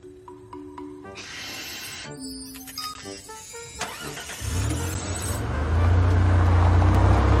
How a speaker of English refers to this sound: What on earth are you doing? I'm starting the car. What do you think I'm doing?